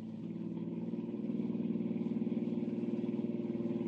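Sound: car engine racing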